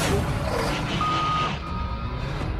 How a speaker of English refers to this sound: Why is it backing up the truck?